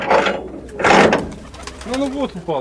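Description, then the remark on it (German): Pigeons coo softly in a pigeon loft with an iron-plate-reinforced door in a shell-damaged residential area, low throaty warbles repeating near the end, after a couple of broad rustling bursts like wings flapping or shuffling. “Die Tür dieses Taubenschlags ist mit Eisenplatten verstärkt. Der Taubenzüchter ist Bergmann.”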